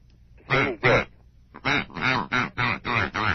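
A live duck going by quacks eight times: two quick nasal quacks, a brief pause, then a steady run of six more, loud and evenly spaced.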